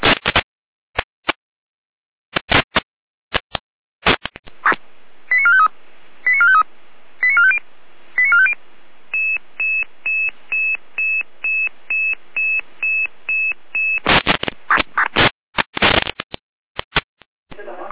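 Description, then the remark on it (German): Radio paging alert tones for an emergency alarm callout in Germany: a few short stepped tone bursts, then a steady run of evenly spaced beeps, framed by sharp crackly radio clicks and squelch bursts before and after. “Achtung, letzte Seite mit Alarmierung.”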